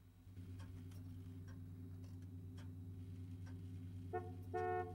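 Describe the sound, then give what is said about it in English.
An anniversary clock on top of a cabinet ticks with soft, evenly spaced clicks over a steady low hum. A couple of brief horn-like tones sound near the end. “He picks up a coat and a small suitcase, then stands for a moment and stares at some framed photos of an attractive young woman, which sit beside the anniversary clock on top of a cabinet.”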